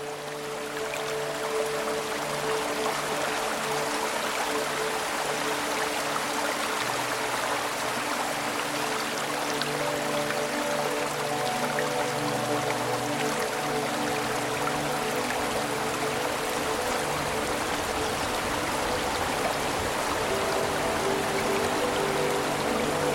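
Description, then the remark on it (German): A babbling brook flows steadily for the whole stretch, a dense, bright rush of trickling and splashing water with faint low tonal murmurs underneath, mixed with wind gently rustling through trees, even in loudness throughout and with no voices. “Klang des Baches vermischt sich mit dem sanften Rascheln des Windes, der durch die Bäume gleitet.”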